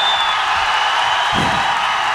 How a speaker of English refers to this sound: Ready? Okay, everybody start cheering, go ahead.